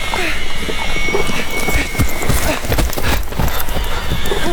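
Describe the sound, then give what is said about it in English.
A stuck horse's hooves clop in a busy, uneven rhythm while it neighs and whinnies loudly, with a dense, noisy commotion filling the background. “My horse is stuck!”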